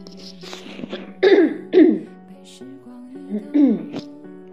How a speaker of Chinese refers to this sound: 不好意思啊，我今天一直在清嗓子，但是我已经捂住那个话筒了。应该声音还行吧。